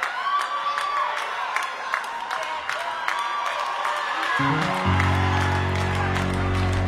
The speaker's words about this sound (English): So good, that part. Let's clap.